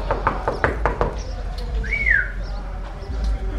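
Someone raps on a door about six times in a quick, even series. A brief rising whistle follows over a steady outdoor background hum.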